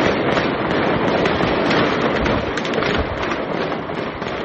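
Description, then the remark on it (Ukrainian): Loud, dense gunfire crackles without pause, rapid shots piling into a continuous roar with occasional heavier bursts of hand grenade explosions, and no voices, as terrorism suspects in a 10-storey apartment building in Georgia shoot and throw hand grenades at security forces. “Підозрювані відмовлялися від наказу здатися, почали стріляти і кидати ручні гранати в силовиків.”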